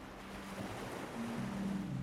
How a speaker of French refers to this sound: Et vous vous laissez bercer par le mouvement des vagues qui vont et qui viennent au même rythme que la respiration qui monte et qui descend.